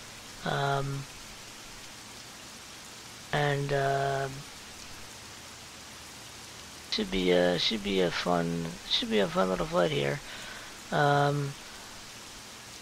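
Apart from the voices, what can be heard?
rain sound effect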